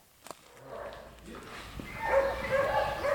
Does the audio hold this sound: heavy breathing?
no